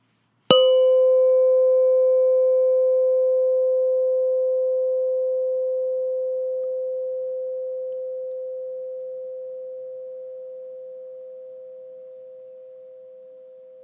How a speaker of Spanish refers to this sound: Ahora escucharás el sonido de una campana. Date cuenta del momento en el que dejes de escuchar el sonido.